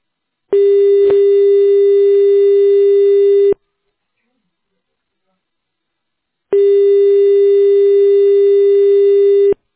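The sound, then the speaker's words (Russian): A loud telephone ringback tone: two long, steady, mid-pitched electronic buzzes of about three seconds each, separated by a matching stretch of silence, with no one speaking. “Оглохнуть может, так громко гудок.”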